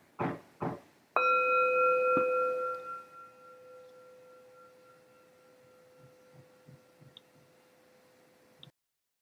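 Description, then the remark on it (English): A single strike of a meditation bell, rung to begin group practice, preceded by two soft knocks, rings out with a clear, mid-pitched tone and shimmering overtones that slowly fade over about seven seconds. No one speaks. “I'll ring the bell once and we'll go now to our group practice.”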